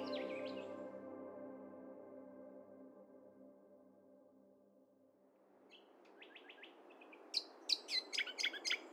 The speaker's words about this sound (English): Disappearing along with their numbers is the uniquely beautiful Regent Honeyeater song. So why is their song disappearing? Today, bringing back the song of the Regent Honeyeater.